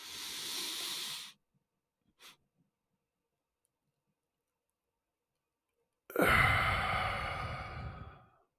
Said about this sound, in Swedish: Så en andas in så mycket jag kan med näsan och så sen andas jag in lite till. Håll andan lite och så lång utandning. Så en slags, den funkar faktiskt.